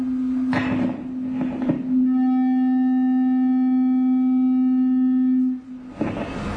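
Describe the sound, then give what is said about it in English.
A tuning fork is struck, with a couple of sharp taps before it, then rings out as a steady, pure tone with faint higher overtones, holding for several seconds before cutting off. “Now what I have are two devices, these are tuning forks, so when I hit this mechanically it vibrates back and forth.”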